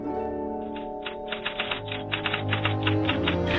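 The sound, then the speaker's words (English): Typewriter keys clack in a quick, steady run of sharp strikes that starts after a brief pause, over a sustained low droning tone with no one speaking. “Enough for today, I think, and put the cover back on my typewriter.”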